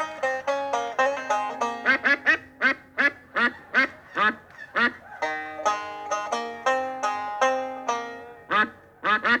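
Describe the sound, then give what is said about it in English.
A duck quacks over and over on a tape recording in quick, nasal bursts, loud, some calls clipped short and others drawn out, with no voices alongside. “why, it's Melvin the Duck”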